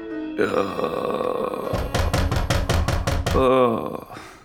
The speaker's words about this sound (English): Oh, my head is pounding. And now it's pounding so loud it sounds like it's coming from the door.